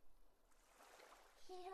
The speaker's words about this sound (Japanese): ねえ、この波の音癒されるね。